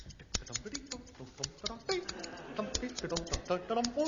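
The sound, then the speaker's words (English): Several sharp snipping clicks, like scissors cutting through the string tied around a parcel, come in an irregular series over a few seconds while voices murmur underneath. “I can't get the string undone. Let me try with the scissors.”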